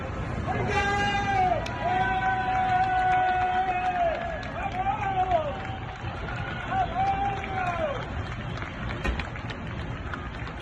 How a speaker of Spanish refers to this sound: Aplausos que ellos agradecen